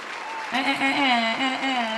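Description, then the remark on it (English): Steady clapping from an audience welcoming a special guest on the Just Acting Up Show, with a sustained, slightly wavering voiced cheer rising over it about halfway through and holding to the end. “Clap it in, y'all.”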